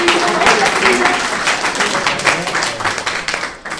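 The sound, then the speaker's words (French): An audience applauds steadily, a dense wash of many hands clapping at once, fairly loud and sustained before tapering off slightly at the end, applauding the woman who made the event poster, a montage of a sculpture and a painting. “Elle a fait un montage entre une sculpture et un tableau, et franchement, je pense qu'elle sera, on méritera de l'applaudir également.”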